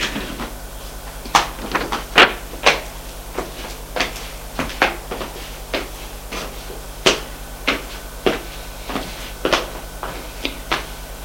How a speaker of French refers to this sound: Frappe à la porte.